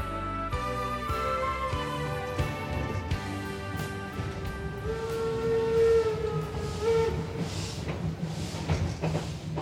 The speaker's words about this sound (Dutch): Het is de eerste keer dat ik in een trein zit. Die palen schieten voorbij.